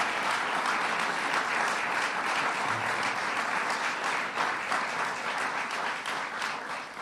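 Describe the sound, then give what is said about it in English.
A crowd applauds the Assembly and the Senate for their work on the first day of the legislative session, clapping steadily for several seconds in a dense, sustained wash holding an even loudness before easing slightly toward the end. “But let's please join me in giving the Assembly and the Senate a round of applause for their great work.”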